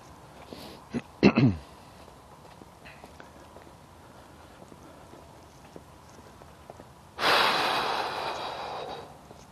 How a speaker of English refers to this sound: Yawn, yawn, yawn. Okay, seems to. I've been up for a couple hours, so you'd think I'd stop yawning by now. But not happening.